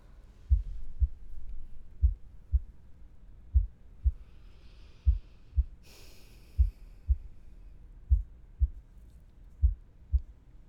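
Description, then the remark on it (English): A slow, steady heartbeat heard through a pillow thumps in muffled lub-dub pairs, about one beat every 1.5 seconds, with a brief soft rustle partway through and no talking. “Now you can really hear it.”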